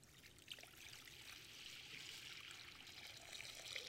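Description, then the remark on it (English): Water pours steadily into a basin, a soft continuous splashing trickle that holds an even level for several seconds, fairly quiet, with no voices. “And takes the form of not just a man, but a servant who would one day use a basin like this and wash his disciples' feet.”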